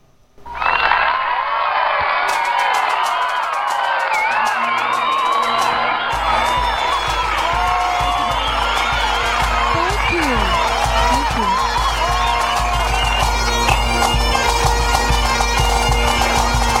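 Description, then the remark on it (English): A loud crowd cheers and whoops continuously, many voices shouting and yelling together in a dense, steady roar that carries on without pause from start to finish. “Oh, crowd.”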